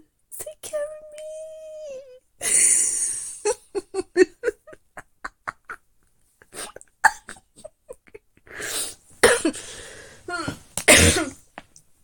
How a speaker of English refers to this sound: Stop coughing, and I need to get my clothes out of the dryer.